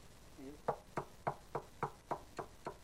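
Eight knocks on a door in a steady, even rhythm, each one a sharp rap with quiet gaps in between and no talking over them.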